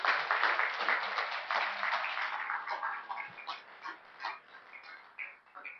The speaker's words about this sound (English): Just please give them a round of applause.